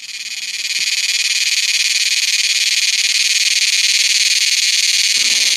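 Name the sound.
cicada song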